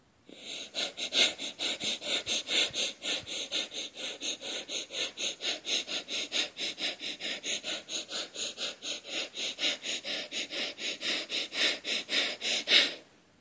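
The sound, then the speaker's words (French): Rapid, forceful breaths of a guided breathing exercise, drawing in the belly to push out all the air, pulse at a steady fast rhythm, about three per second, for roughly twelve seconds, clear with no talking, ending in one stronger exhale. “Laisse-toi guider par le bruit de ma propre respiration, mais toujours suis ton rythme à toi, ce qui est juste pour toi.”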